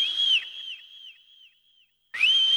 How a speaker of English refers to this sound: Get you if you don't blow that whistle. Blow that whistle. Blow that whistle. Blow that whistle. Blow that whistle.